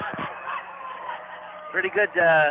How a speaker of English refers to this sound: Pretty good crowd. Well, San Marcos is right next door to Vista, so as it should be.